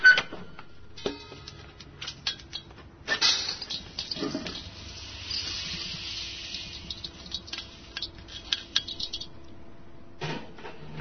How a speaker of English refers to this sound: After the beans are done roasting, they are poured out of the steel drum and into a stainless steel bowl.